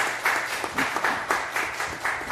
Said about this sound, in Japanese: おめでとうございます。拍手を持って祝福してください。